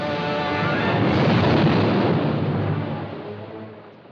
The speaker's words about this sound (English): He's very near. Be ready for him. Eventually, the whale blasts out of the water just for a moment.